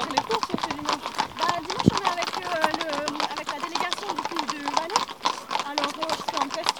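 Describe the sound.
The hooves of a ridden 6-year-old Franches-Montagnes horse clip-clop in a steady, repeated rhythm on a hard surface, fairly loud, while voices talk over the sound of the walking horse throughout.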